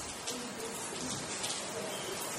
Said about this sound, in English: If we look outside, we can see and hear rain falling.